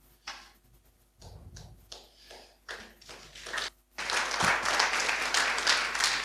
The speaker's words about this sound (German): Ja, einen großen Applaus, natürlich.